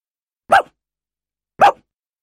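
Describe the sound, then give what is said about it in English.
A dog named Rufus barks twice, short sharp woofs about a second apart, clear with silence around them. “Barked Rufus, and he wagged his tail.”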